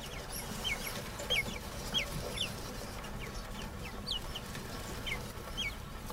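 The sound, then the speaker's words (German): Naked mole rat vocalizations: a string of short, high, squeaky chirps repeating irregularly, about ten in a few seconds, over a steady low rumbling hiss. “Man hat bei Nacktmullen inzwischen 18 unterschiedliche Laute identifiziert.”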